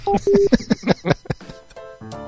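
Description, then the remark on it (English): A cordless phone's electronic ringtone, one also heard at Radio Shack stores, chirps in short, steady beeping tones in the background, mixed with bursts of talking and a buzzy tonal warble near the end. “So, did you hear that ringtone in the background?”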